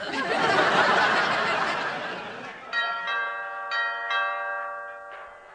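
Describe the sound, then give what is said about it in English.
A burst of noisy laughter fades out as a doorbell chimes, sounding a short melody of several bright, ringing notes that overlap and sustain before the last one trails off. “You think you can answer the door?”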